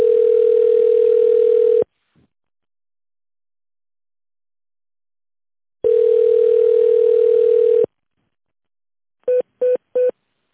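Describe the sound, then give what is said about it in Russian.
A steady, mid-pitched telephone line tone, heard on hold on a busy line while waiting for an operator during a call to the GAZ-RusAvto car dealership, sounds in two long tones about two seconds each, separated by silence, followed by three quick short beeps at the end. No voices are heard. “К сожалению, линия занята. Пожалуйста, дождитесь ответа оператора.”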